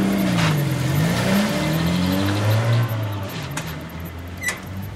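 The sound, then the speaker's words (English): A car engine revs and drives, its droning pitch rising and falling as it accelerates, with a couple of brief squeaks near the end, as a mother drives her child in the car. “Mum takes me in the car.”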